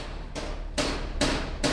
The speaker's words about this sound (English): That is why I don't need to set an alarm in the morning. Every morning, 7 days a week, the cacophony of construction workers banging away on two projects next to my house.